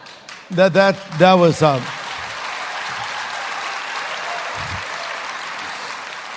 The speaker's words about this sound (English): I would call that a smattering of applause, actually. It's not a wholehearted commitment.